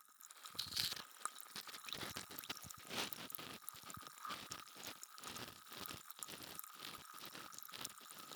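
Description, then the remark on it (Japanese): Continuous fizzing and crackling of foam bubbling in the ear, a dense stream of tiny pops and crinkles with no voices. “耳の中すっきりするって。そうでしょう。これだけシュワシュワしてればね。”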